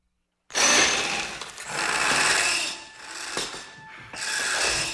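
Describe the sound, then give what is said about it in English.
A power drill grinds harshly as Nobby breaks through a window with it, its loud whining rasp surging in several long bursts with brief dips between them, and no voices. “Nobby breaks through a window with a drill.”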